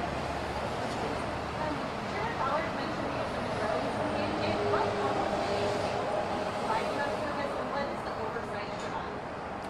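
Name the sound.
background road traffic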